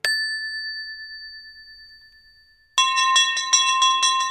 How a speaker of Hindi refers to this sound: घंटी बजी यानी छुट्टी खत्म।